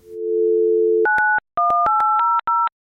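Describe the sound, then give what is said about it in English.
A steady telephone dial tone hums for about a second, then gives way to a quick run of touch-tone keypad beeps pressed in short rhythmic bursts as someone dials a customer service line, clear, with no voices. “You dial up, you get a familiar greeting.”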